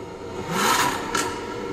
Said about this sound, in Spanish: Ah, eso sí es un buen sonido, que es el F-Type R que traemos a prueba esta semana.